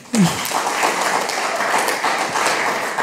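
A crowd breaks into steady applause, many hands clapping in a dense, even wash of sound that stays loud and continuous for a few seconds.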